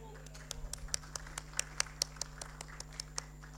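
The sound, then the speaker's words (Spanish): Brief, sparse applause in Paraguay's Chamber of Deputies after a deputy's speech: a steady run of sharp hand claps, roughly five per second and fairly loud, over a constant low electrical hum, with no voices. “Muy bien, merece un aplauso.”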